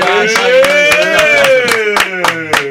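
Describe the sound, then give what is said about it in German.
Steady, evenly spaced handclaps, about three per second, ring out over a sustained, slowly gliding tone like a held voice; the clapping is sharp and moderately loud throughout. “Komm, noch mehr Applaus, bitte.”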